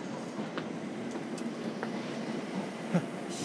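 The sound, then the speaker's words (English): A steady low rumble of a train coming in at a station, with faint clattering and brief metallic clicks, with no one speaking. “So if this is a train coming in, I know I don't need it.”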